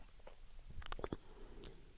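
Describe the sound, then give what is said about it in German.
Someone swallows: a brief cluster of soft, wet clicks and gulping mouth noises in the middle, with quieter mouth sounds before and after and no talking. “Runterschluck.”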